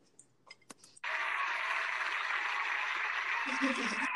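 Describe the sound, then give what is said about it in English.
A few soft clicks, then an abrupt, loud burst of crowd applause and cheering that holds steady and dense for about three seconds: a canned applause sound effect searched up online. “Applause! And the crowd goes wild.”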